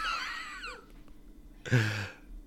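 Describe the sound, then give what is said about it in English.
A child gasps once, a short breathy intake, after a few high, falling vocal squeaks, with a quiet pause between them. “like gasped after I said, sometimes I get fired up over here.”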